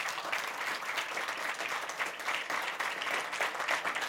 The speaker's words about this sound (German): Einen herzlichen Applaus für AP Segge, bitte.